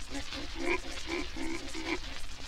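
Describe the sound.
A voice imitates farm pigs grunting, making a quick run of five or six short, nasal oinks in a steady rhythm, fairly loud, over a faint hiss of background noise.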